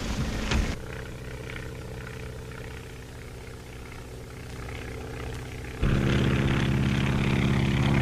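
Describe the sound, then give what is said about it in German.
A skywriting propeller plane's engine drones steadily with strong low harmonic tones, then its roar swells suddenly louder and brighter near the end, as if throttling up. No one speaks. “In our team, we have three planes working together. Well, we're off.”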